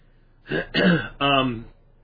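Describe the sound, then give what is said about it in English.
A person clears their throat in three short, rough, partly voiced bursts, with brief pauses between them and quiet around. “I do have a cough button there. I just turn it on and off.”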